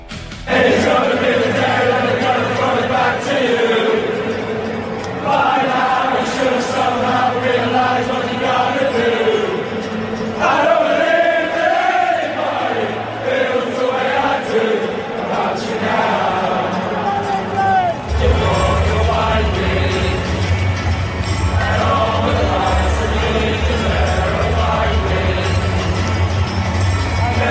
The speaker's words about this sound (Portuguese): Toda a torcida cantando, o time abraçado cantando.